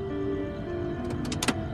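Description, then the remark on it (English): A steady, droning engine hum of a twin-engine propeller plane on approach and landing in northern Mexico holds throughout, with a few brief clicks and rustles near the end. “It's a twin-engine engine prop on approach.”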